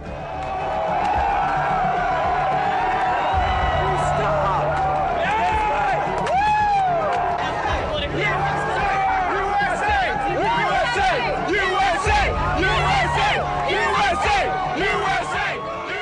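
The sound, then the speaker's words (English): A large crowd cheers and shouts in the streets on 2 May 2011 after news that the US military had killed Osama bin Laden, a steady roar of many voices with whoops and rising yells layered over it, loud and continuous throughout, punctuated by low rumbling bursts. “Cheering in the streets there after the news on the 2nd of May 2011 that the US military had killed the founder of Al-Qaeda, Osama bin Laden, after a raid on a compound where he'd been hiding out near the capital of Pakistan.”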